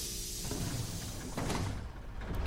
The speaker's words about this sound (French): Les portes du bus s'ouvrent comme une libération.